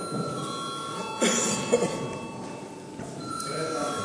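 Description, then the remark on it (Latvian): A steady electric call bell rings continuously in the Latvian parliament (Saeima), calling deputies to a vote, a sustained metallic tone held without a break, over faint room noise and murmuring. “Deputāti iebilst, lūdzu zvanu.”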